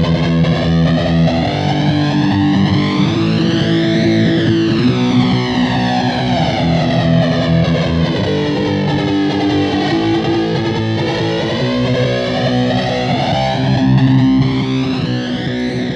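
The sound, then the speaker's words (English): A loud, distorted effects-unit patch with a jet-like flanger sweep that whooshes up and down in slow waves over steady sustained tones, with no talking. “If you like to get really, really busy, this one's perfect for you, the Jet Patch.”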